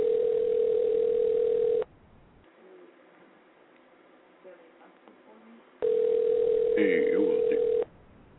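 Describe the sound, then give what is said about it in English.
A loud, steady landline dial tone hums for about two seconds, falls away to a stretch of faint background noise, then returns for another two seconds with brief warbling sounds over it. “Was that actually a landline?”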